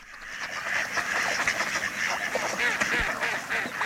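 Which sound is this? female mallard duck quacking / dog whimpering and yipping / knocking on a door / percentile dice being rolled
female mallard duck quacking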